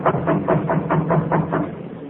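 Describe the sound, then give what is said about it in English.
A steady run of about eight quick, even taps on a door, knocking in a regular rhythm over a low, continuous hum, with no one speaking. “I reckon it won't hurt nothing to tap on the door, sort of, you know.”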